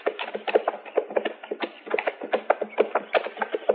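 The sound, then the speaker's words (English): Steady clip-clop of horse hooves as horses are ridden near a creek, a quick, even run of hollow knocks that continues throughout at moderate loudness, with no one speaking. “All right, we'll leave the horses here.”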